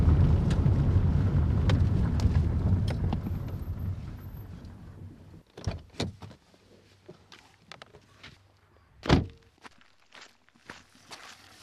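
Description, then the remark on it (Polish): A cow being milked by hand by a woman during a milking contest; the cow gives about 40 litres of milk a day. Scattered sharp knocks, squirts and shuffling thumps follow a few seconds of dense low rumbling noise, with no talking. “W tej chwili pani Rutkowska, czyli trzecia uczestniczka naszego konkursu, dokonuje udoju konkursowego krowy.”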